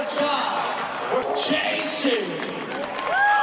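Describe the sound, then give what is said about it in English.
A noisy basketball crowd cheers and shouts after a player hits a layup in the paint, a dense wash of voices with rising whoops, and a sneaker-like squeak or whistle sliding up near the end. “So that was cheering.”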